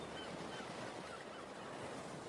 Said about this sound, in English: Can you hear the seagulls?